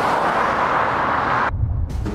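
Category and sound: vehicle, cars driving past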